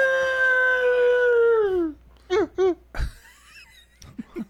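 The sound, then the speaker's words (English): A person on the Wake Up Crew radio show imitates a wolf howl: one long, loud, steady harmonic wail that slowly sags and fizzles out at the end as he runs out of air, followed by a few short yelps and gasps. “That started out maybe being the greatest one he's ever done, and then it just kind of fizzled right at the end.”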